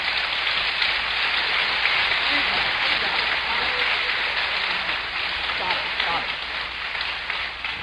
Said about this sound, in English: Circle of applause.